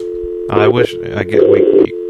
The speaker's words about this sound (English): I'm gonna try one more time on the studio phone and see if I can get him. I've never dialed out on this thing. Let's see. Oh, we got a dial tone.